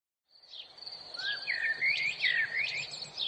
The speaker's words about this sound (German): Vogelgezwitscher bahnte sich hartnäckig einen Weg in seinen Traum, wo es allerdings überhaupt nicht hineinpasste.